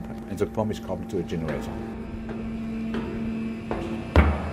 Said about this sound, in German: Marquis öffnet eine Tür. Wuchtige Blöcke aus Stahl, singende Pumpen, dröhnende Generatoren.